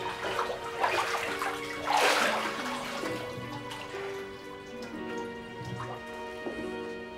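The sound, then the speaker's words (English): Water splashes and sloshes as a girl bathes in spring water, with a bigger surge early on, then softer trickles and drips over a faint, steady tonal background. “She was taken to bathe in the water from Bernadette's spring.”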